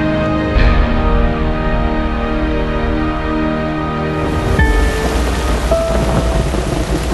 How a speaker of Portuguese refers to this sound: É julho e chove todos os dias.